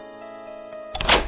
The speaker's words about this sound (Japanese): その時、扉を開く音がして何者かが入ってきた。